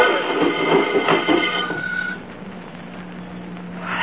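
A car, its brake released and given a push, rolls away downhill, picking up speed on the downgrade, with a rumbling, grinding roar that is loudest at first, then thins into a steady low rumble before briefly swelling again at the end.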